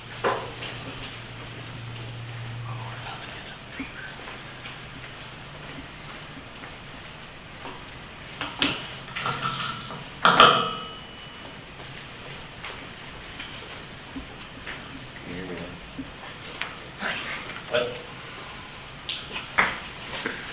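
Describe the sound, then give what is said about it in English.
Scattered bumps, clicks and rubbing as a phone is handled and slid across a table, with a strong thump midway and a low hum in the background. “Okay, I'm going to move the phone over there.”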